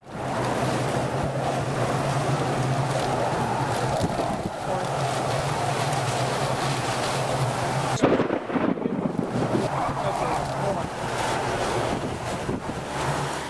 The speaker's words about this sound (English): I think even a child who has never heard this sound would get prickly hairs on the back of a neck, as the storm chaser recording of a howl in Joplin, Missouri, just as the twister that killed hundreds came to town.